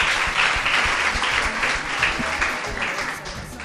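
An audience claps steadily in a dense, continuous burst of applause that stays loud throughout, then thins slightly toward the end.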